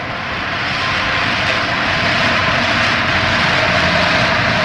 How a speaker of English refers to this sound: It's funny that in a place like this, the sound of the traffic probably never stops.